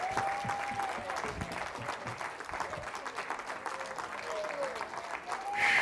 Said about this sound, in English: And you're not clapping me, you're clapping the Lord.